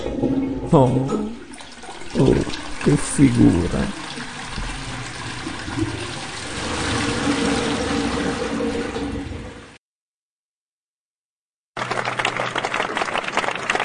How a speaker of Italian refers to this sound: No, ragazzi, no, lo sciacquone no.